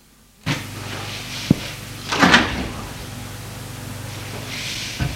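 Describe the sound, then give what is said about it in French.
A bedroom door opens with a sharp latch click followed by a short creaking scrape of the hinges, set against a steady background hiss with no one speaking. “La porte de la chambre de sa sœur s'est ouverte.”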